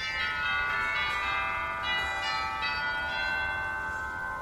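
Bright, resonant theater organ chimes ring out in overlapping tones, each strike sustaining and blending into a shimmering wash of bell-like harmonics, loud with no talking.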